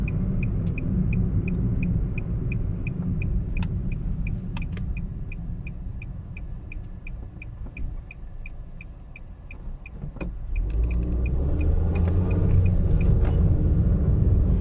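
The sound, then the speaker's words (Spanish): Low, steady engine and road rumble from inside a car driving in heavy traffic, with a turn signal ticking in a fast, even rhythm for most of the stretch; the rumble swells louder toward the end. No one speaks. “Perdonen, porque está mucho tráfico, algo pasó, un choque, no sé, pues me lo voy a jugar, lo voy a dar por otro lado.”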